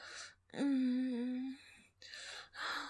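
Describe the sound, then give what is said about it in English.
Sharp, breathy gasps, with a drawn-out voiced moan between them and two more quick inhalations toward the end. No words are spoken. “Hear the gasps.”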